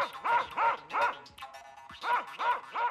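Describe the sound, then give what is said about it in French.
Two very thin dogs, ready to attack a little girl, bark in a quick, steady rhythm: about six loud barks in two groups of three with a short pause between them; no one speaks. “Mais, à peine sortie de la maison, elle vit deux chiens encore plus maigres que le chat, tout prêts à la dévorer.”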